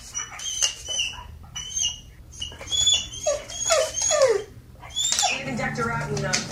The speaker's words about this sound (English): This looks like a young black lab that is watching TV and is okay as long as it's playing. But when the owner pauses the TiVo or the DVR, dog starts whimpering and going crazy because it stopped moving.